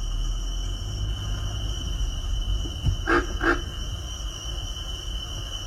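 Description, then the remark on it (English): A steady, shrill chorus of cricket frogs drones throughout, with a low rumble beneath, and partway through a brief, coarse grunt breaks in as two quick pulses. “A single grunt can be heard in the background of a chorus of cricket frogs.”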